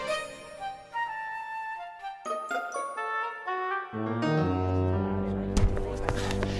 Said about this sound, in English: The bell works, sir. But thank you for testing it.